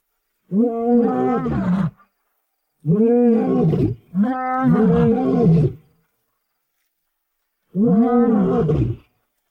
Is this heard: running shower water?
no